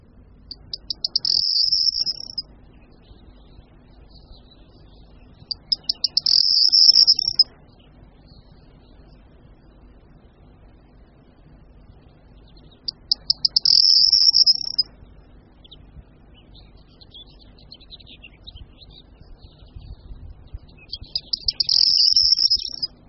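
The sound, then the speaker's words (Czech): A male corn bunting sings four short, jangling, high-pitched song phrases separated by pauses of several seconds, clear against a quiet outdoor background with no talking. “Z těchto míst pak také ostatním samečkům a samičkám, kterých jeden sameček může mít několik, předvádějí svou písničku.”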